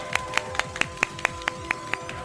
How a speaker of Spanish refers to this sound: En el último programa de Game Over. Estamos en el Palau Sant Jordi de la Japan Weekend. ¡Un aplauso fuerte!